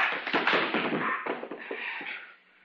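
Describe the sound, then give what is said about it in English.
A forceful blow knocks a man unconscious amid a quick flurry of thumps and scuffling knocks, loud at first and then trailing off into quiet. “You knocked him out.”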